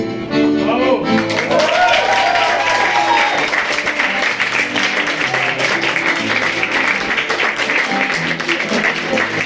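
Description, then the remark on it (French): A song's final notes fade out as an audience bursts into loud, steady applause, a dense wash of clapping with some cheering voices that carries on strongly to the end. “on applaudit.”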